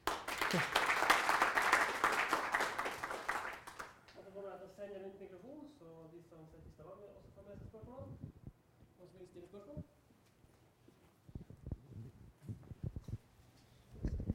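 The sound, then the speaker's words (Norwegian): A burst of audience applause at the end of a talk on RDF and Drupal fills the opening seconds, dense and loud, then quickly gives way to people talking in Norwegian, with a few scattered claps and knocks later on. “Skal vi først ta en liten applaus?”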